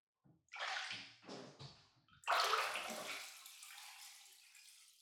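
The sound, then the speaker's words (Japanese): Water sloshes and splashes in a series of bursts as someone rises out of a full bathtub to sit down, ending in a louder surge that drains away into trickling and dripping. No one speaks. “湯船から出てそこに座ってください。”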